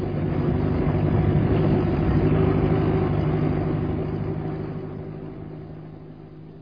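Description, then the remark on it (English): A car engine idles with a low, steady rumble and harmonic hum as the car is parked at a lodge, holding constant for several seconds before gradually fading as the engine winds down. “I thought we'd park the car at the lodge.”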